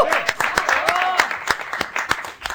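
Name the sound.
applause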